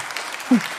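A brief burst of applause from a small group, dense overlapping claps at a steady moderate level, with a short low vocal sound cutting in partway through.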